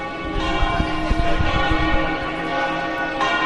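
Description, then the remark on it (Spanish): Church bells peal continuously, a dense wash of overlapping ringing tones with steady strikes, fairly loud and reverberant, with no voices. “Sonido de las campanas.”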